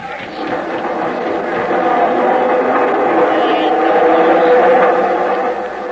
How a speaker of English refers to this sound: You better catch him before that train pulls out.